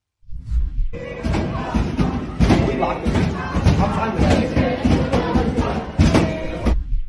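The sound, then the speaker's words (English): Heavy, irregular pounding by protesters on the library door at Cooper Union, with students stuck inside, loud, with several sharp bangs as they try to bang the doors open, over a dense, noisy crowd shouting and chanting "Free Palestine" throughout. “Here's some film of students at Cooper Union stuck in the library as pro-Hamas protesters pounded on the door.”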